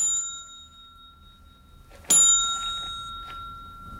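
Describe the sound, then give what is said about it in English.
A single sharp ding of a front desk bell in a morgue, bright, its metallic ring hanging and slowly fading over a faint lingering tone, with no voices. “goes up to the front desk, still carrying his shotgun, which he puts down before ringing the bell.”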